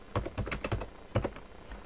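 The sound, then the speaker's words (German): Quick, uneven run of about eight or nine keystrokes on a computer keyboard as an admin password is typed to install software on Fedora Core, clear, with sharp clicky taps and short pauses between them. No one speaks. “Ich gehe auf Anwendung, Add Remove Software oder ich führe den Befehl pyroot aus, gebe das Admin-Passwort ein.”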